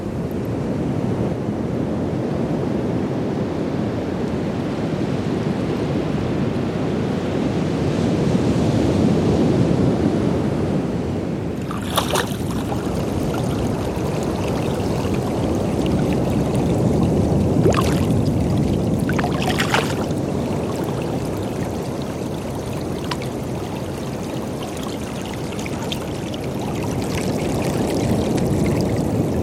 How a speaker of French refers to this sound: Marée basse, marée haute, avec vent ou sans vent, le jour, la nuit, pluie ou soleil, je vous invite dans une immersion marine où les variations océanes viendront entrouvrir votre imaginaire.